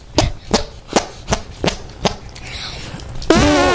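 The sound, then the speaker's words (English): Six sharp, wet slapping pops in a steady rhythm, close and fairly loud, arm farts made by a 9-year-old boy from Pompano Beach in an arm fart contest, using the top of the arm and under the arm, ending in a longer buzzing, squelchy arm fart. “Okay, he also did a fart using his arm on the top of the arm and under the arm.”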